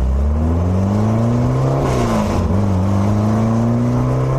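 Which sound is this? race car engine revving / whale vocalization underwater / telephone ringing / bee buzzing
race car engine revving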